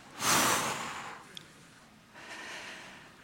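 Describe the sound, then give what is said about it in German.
An airy breath rushes in loudly, fades, and after a short pause a softer, drawn-out breath follows, a slow exhale during a guided breathing exercise. No one speaks. “Nun öffnen wir wieder beim Einatmen einen weiteren Port und atmen aus.”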